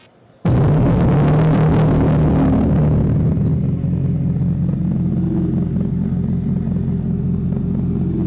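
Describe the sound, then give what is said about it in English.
A car engine sound roars to life abruptly and keeps up a loud, deep, steady rumble with throaty low harmonics, produced not by a speaker but by air pumped through a tube, without any talking. “So the cool thing about that is it's not actually a speaker, it's actually like a tube.”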